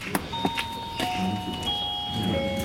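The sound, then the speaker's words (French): A small doorbell for entering a small lodging, labelled 'Ding-dong', chimes with a ding-dong, its clear ringing tones overlapping and lingering, accompanied by a few light clicks against a soft background. “Il y a une petite sonnette pour rentrer dans la Rosalotte. Et c'est écrit « Ding-dong ».”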